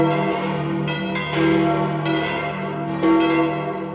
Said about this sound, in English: But any uncertainty about its color was lifted at 6:05 when the bells of St. Peter's rang out festively for all of Rome to hear.